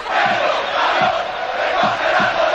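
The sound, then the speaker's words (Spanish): A loud, dense football stadium crowd roars and shouts racist chants continuously, with rhythmic low pulses recurring about every second like chanting or clapping beneath the din. “En todos los campos de fútbol hay gritos racistas.”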